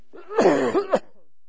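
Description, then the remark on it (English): A fairly loud fit of coughing and throat clearing, about half a second of rough, voiced hacking that ends in a final sharp cough, then silence. A speaker coughing just after standing up to speak. “All of a sudden, I stand up, and I'm going to cough, so if somebody in the back could give me a little glass of water.”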